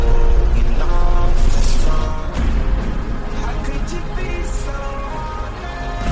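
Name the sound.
bus interior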